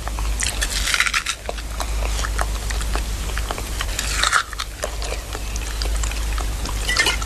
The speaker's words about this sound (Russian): И запивает самчиком. Самогоном запивает. Или это молоко? Я не вижу. Ну, мутное что-то. Наверное, самогоном.